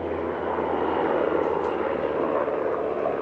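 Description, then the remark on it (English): An American Cobra attack helicopter passes low overhead at a fair in Iraq, a loud, steady wash of engine and rotor noise that fills the whole recording without fading, with a deep hum underneath and no voices. “As small Iraqi children sitting in plastic helicopters serenely ride round and round a merry-go-round, a real one, an American Cobra, passes low overhead.”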